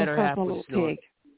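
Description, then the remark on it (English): A human voice imitates a pig oinking in two quick grunting snorts, loud and nasal, followed by a brief faint trailing noise. “No, that's a pig oinking.”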